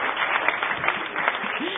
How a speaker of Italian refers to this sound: Bravo. L'applauso.